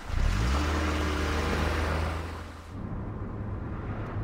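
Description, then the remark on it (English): A man puts a small coupe in gear: its engine revs up with a rising low drone, then settles into a steady rumble as the car pulls away, loud with no talking. “Smiling, the man puts the car in gear.”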